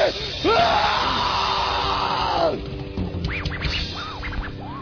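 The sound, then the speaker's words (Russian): A large crowd roars and yells wildly for a few seconds, a dense, loud wall of cheering voices that thins into scattered whoops and shouts toward the end. “И еще раз хотим услышать ваш дикий вопль!”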